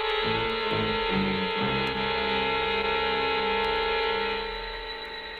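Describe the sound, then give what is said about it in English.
A doorbell buzzes in one long, unbroken, insistent ring, a harsh steady electric drone that holds for several seconds before easing off at the end. No one speaks. “That's him. The ring of authority.”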